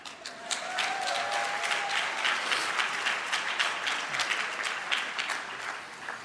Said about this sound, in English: A round of applause to our fabulous wine sponsor, Auriel.